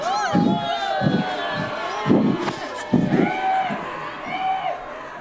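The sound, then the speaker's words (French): A group of children stand up and shout together to scare others, in loud, overlapping high-pitched voices, with repeated bursts of noise and a few heavier thumps, like stamping feet, underneath. “Mais il faut vous lever, vous crier, comme vraiment, il faut qu'on ait peur, là.”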